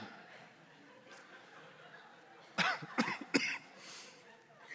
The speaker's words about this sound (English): I can't laugh this morning because I'm going to start coughing and then I won't be able to preach.